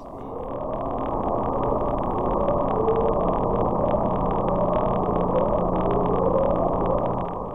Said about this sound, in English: We're gonna catch this goddamn bloop. Like, here is the upsweep.